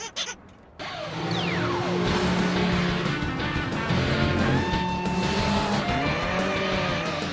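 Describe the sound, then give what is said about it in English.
The small engine of a souped-up trike roars to life and speeds away, revving hard with whining pitch sweeps and squealing tires, loud for several seconds after a brief quiet start. “I spent all week souping this thing up. Well, let's see what she can do.”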